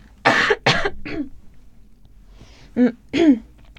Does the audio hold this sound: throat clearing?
yes